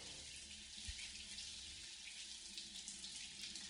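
hot water running

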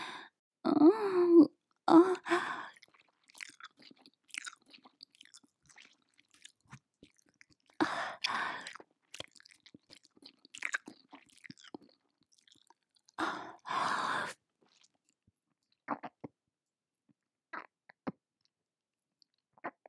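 mouth chewing and swallowing

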